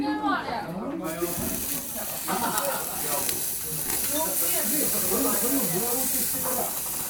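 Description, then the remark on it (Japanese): Beef short rib (kalbi) sizzles steadily on a grill net, a continuous crackling hiss running the whole time while voices chatter over it. “うわー、ジュージューと音を立て。いいですね。もう網の上でカルビがもう今か今かと。”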